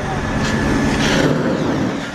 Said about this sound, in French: Oh, j'entends le moteur qui s'accélère.